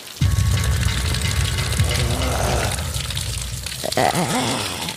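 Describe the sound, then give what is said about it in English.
Steady splashing and rushing water fills the scene, loud, with churning sloshes as a man goes into cold water and a brief gasp-like voice near the end. “Oh, he's in the cold. He's going into the water. The cold water.”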